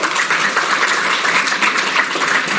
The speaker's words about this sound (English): Well, you're going to clap again because they're here today. And I want to publicly acknowledge my senior leadership team for their service to the city, because what you do goes unnoticed so many times.